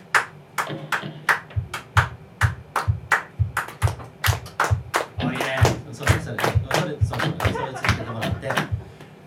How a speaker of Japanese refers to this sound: これは手拍子をね、やってほしいんですけども、今日のリズムは、トントントントン。